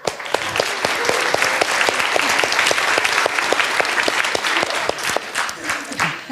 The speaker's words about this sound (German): So, die Auswechselspieler kommen. Ja, ein Applaus für die Helfer.